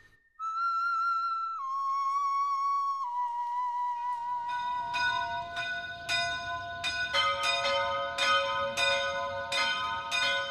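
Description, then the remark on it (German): Bells of a pilgrimage church ring close by, starting with a single sustained tone and building into an overlapping peal of repeated strikes with long, shimmering decays, loud and continuous throughout. “Wenn der Klang der nahen Glocken den Betrachter wieder in die Gegenwart ruft und zum Rundgang in die Wallfahrtskirche einlädt”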